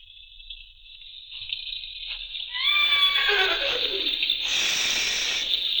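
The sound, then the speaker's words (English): A horse lets out a loud, shrill whinny that starts high and wavers downward, ending in a breathy, noisy snort, with no voices heard. “Shh. Be quiet. Nice horse. Nice horse. Oh, shut up, horse.”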